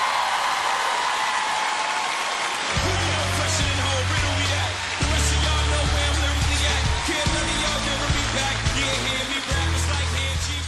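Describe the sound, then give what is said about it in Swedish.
A large audience at the Grammy Awards on 8 February 2006 roars and cheers in a loud, unbroken wall of noise as six young men in ties and jackets step onto the stage, while a deep, throbbing bass pulse enters after a few seconds and repeats in steady blocks underneath. “Publiken vrålar när sex killar, prydligt klädda i slipsar och kavajer, kliver upp på Grammy Awards stora scen.”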